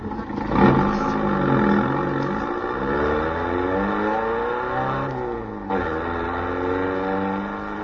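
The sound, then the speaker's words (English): A sports car engine fires up with a sharp burst, then revs repeatedly, its pitch sweeping up and down in loud roars that continue throughout without any voices. “All right, now get the car started.”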